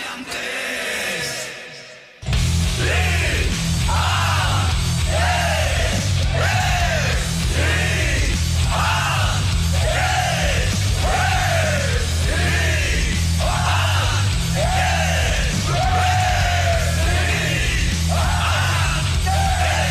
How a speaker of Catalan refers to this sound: Un cop escoltat aquesta petita part de l'himne de l'associació